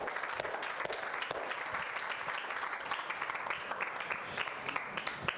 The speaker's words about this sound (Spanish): Un aplauso para ella, muy bien.